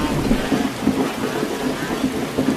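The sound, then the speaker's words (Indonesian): Heavy rain pours down in a steady, dense hiss, with a low rumbling undertone running beneath the downpour throughout. “ngapain kamu hujan-hujanan nyusul nggak pakai payung?”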